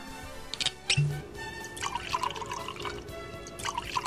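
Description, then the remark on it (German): Red wine being poured from a freshly opened bottle into glasses: a steady gurgling stream of liquid with a few splashy drips, its pitch rising as the glass fills. No one speaks. “Also ich schenke jetzt mal ein, ja.”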